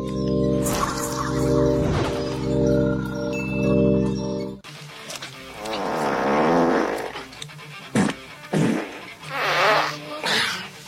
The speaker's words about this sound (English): Okay, farts are funny, but an entire movie of farts, and that's Pauly Shore.